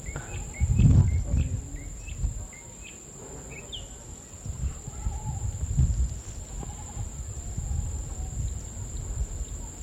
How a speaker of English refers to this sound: We're in an open meadow on a small ridge overlooking a cane field. There's a mockingbird down in the mango tree.